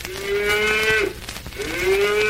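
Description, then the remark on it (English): A cow moos twice, two long, loud, drawn-out lows separated by a brief pause, with no talking. “And now I'm a moo cow.”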